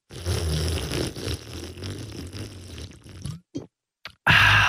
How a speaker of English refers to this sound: That's good water. Would it bother you if I sip my water like this?